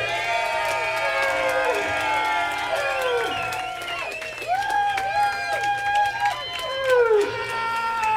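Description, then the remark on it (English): A crowd cheers and whoops loudly and steadily for about eight seconds, many voices rising and falling in overlapping shouts, with clapping mixed underneath. “Firstly, I'd like you to put your hands together for the electrician who can get any spark started,”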